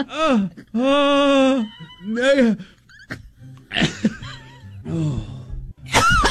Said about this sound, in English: It's like a cough. We're just going to try.